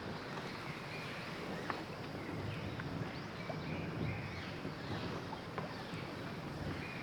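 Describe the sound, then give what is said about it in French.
Oars rowing a boat, with soft water splashes and occasional small knocks over a steady wash of water and wind noise. No one speaks. “Initions maintenant le rythme de la respiration de la cohérence cardiaque en nous synchronisant sur le bruit des rames.”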